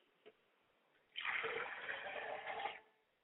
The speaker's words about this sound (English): Ladies and gentlemen, join me as I do libation. I pour a glass of water to my Father Spirit and I say, Ashe.